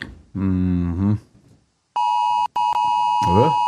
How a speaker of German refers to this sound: das hat am Morgen um 2 angefangen mit dem Geräusch auf meinem Handy. Mit dem.